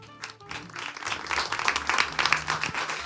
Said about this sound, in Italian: Buonasera, buonasera, buonasera a tutte e tutti, fatevi un applauso.